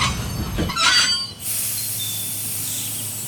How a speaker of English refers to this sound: Why is the train stopping?